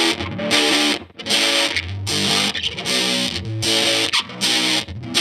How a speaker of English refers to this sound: That is a Big Muff Triangle reissue pedal. That's cool.